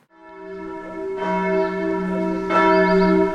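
Church bells in Seekirchen, a town with a lake and a church, ring out in a steady, overlapping peal, with fresh strikes around the one- and two-and-a-half-second marks layered over a long sustained hum. Loud and resonant, no voices.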